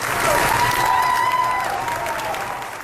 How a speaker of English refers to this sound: A standing ovation? What does that say to you? That crew members were clapping and cheering for the captain as he left the ship was a sign that they trusted him, that he was acting in their best interest.